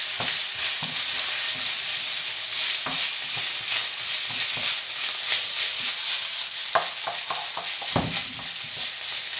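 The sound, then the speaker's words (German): Food is lightly browned in hot oil in a pan, sizzling steadily with a dense crackling hiss filling the high end, punctuated by scraping and clattering as it's stirred around the pan. Fairly loud, no voices. “So, ein bisschen anbraten.”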